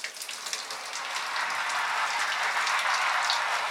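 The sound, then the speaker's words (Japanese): A steady shower spray hisses, water pattering continuously on a person's head and hair as it is wetted before shampooing, bright and fairly loud with no voices, building slightly in intensity throughout. “まずはシャワーで頭を濡らしますね。”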